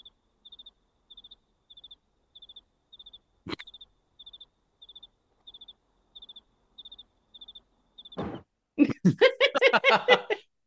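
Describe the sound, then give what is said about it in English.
A cricket chirps in short, evenly spaced bursts against quiet, with a single sharp knock partway through, before a burst of noise and voices take over at the end. “That sort of cricket sound just takes me back because I was an extra in a zombie movie once.”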